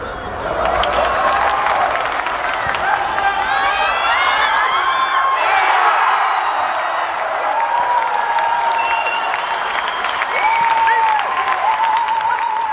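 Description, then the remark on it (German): A large football stadium crowd roars and cheers after FC St. Gallen captain Valeria Iseli scores in the 52nd minute to make it 1:0: a loud, sustained wash of clapping, shouts and high whoops and whistles rising and falling, with no single voice standing out. “In der 52. Minute trifft Valeria Iseli, Captain vom FC St. Gallen, Staat zum 1:0. Das Publikum ist begeistert.”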